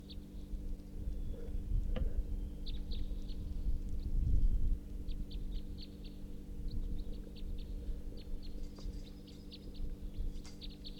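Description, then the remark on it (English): A male bird, bird 342, calls from his tree repeatedly in short, high-pitched chirps, coming in irregular bursts over a steady low rumble and hum, with no voices. “It could just be that male is calling now from his tree.”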